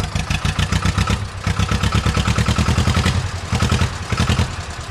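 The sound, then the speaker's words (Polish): An old, recently restored tractor engine is started and chugs steadily with a rapid, even knocking pulse, loud and continuous, with slight dips in rhythm as it runs; no one speaks. “No i spróbujemy zaraz zobaczyć tego, czy zapali. Ten ma inny już dźwięk będzie miał.”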